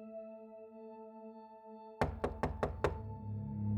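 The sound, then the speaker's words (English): After two seconds of a low steady hum, five sharp knocks land on a door in quick, even succession in the early hours of the morning, loud, followed by a rumbling background. “In the early hours of the morning, a knock comes at the door.”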